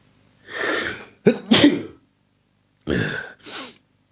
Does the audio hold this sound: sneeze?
yes